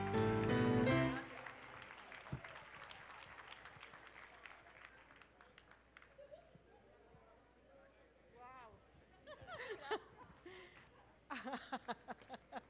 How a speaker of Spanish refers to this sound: ¡Aplauda!